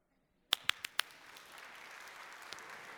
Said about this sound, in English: You can clap now.